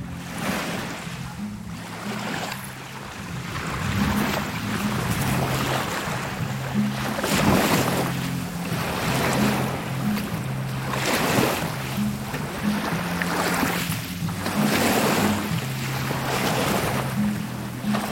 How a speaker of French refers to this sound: Fermez les yeux. Imaginez la chaleur, l'humidité, une petite brise fraîche et le clapotis des vagues avec la musique en toile de fond.